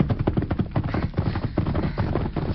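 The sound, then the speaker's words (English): Rapid, steady hoofbeats of a horse clattering along at speed, loud, with a dense rhythmic pounding that carries through the whole moment and no voices over it. “Oh, Silver, steady. Easy, man. Great work, masked man. Stopping that horse.”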